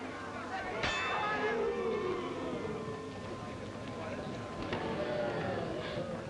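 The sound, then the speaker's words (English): A boxing ring bell clangs twice, once early and again a few seconds later, ending a round, its metallic ring lingering over a steady murmur of crowd noise and indistinct voices. “Both of them landed light lefts at the bell, round even.”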